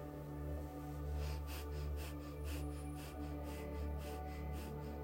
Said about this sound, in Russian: Мы продолжаем глубокое и быстрое дыхание.